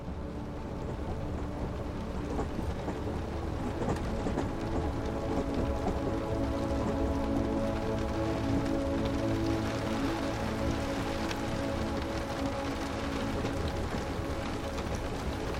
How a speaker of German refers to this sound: Regen perlt ans Fensterglas und verwandelt die Aussicht in ein Aquarell aus Formen und Farben.